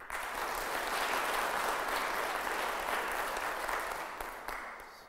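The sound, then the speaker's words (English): An audience claps steadily for about five seconds as a warm-up practice, rating how important it is to stay safe and keep people protected; a dense, even wash of many hands that holds strong throughout and tapers off slightly at the end, with no voices over it. “What would he clap more for?”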